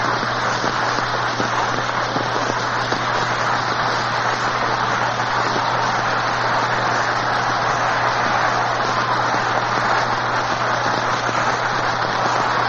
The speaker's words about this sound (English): Well, that's that. You know by the roar of the crowd that the Yankees have a lot of rooters. But anybody would yell over that one.